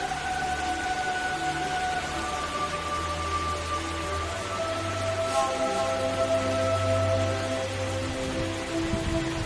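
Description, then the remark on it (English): Steady heavy rain pours over vines growing on trees and drips from the tips of leaves without pause, a dense hiss with faint tonal hums underneath. No one speaks. “The rain pours over the vines growing on the trees, water dripping off the tips of the leaves.”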